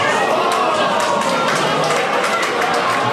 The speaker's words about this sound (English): But the room was so full of fans, others sat shoulder to shoulder on the ends of pool tables, decked in green and gold. The hum of the pub punctuated by sudden gasps, then quiet, then a collective yell and applause.